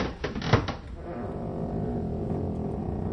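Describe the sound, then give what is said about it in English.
A double gate of iron bars leading into a dungeon creaks open with a few sharp metallic clanks at the start, then settles into a low, steady rumble that hangs on to the end. No one speaks. “The doors creaked open, and inside the dungeon they went.”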